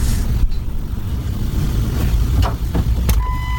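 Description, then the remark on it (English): A woman climbing into a car: a steady engine rumble runs throughout, a few sharp clicks and soft thuds land near the end, then a sustained electronic chime sounds. No one speaks. “This is where she gets in the car.”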